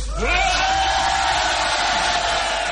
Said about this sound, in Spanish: Vamos a hacer ahora algo para remarcar la felicidad que nos invade. Primero vamos a gritar otra vez.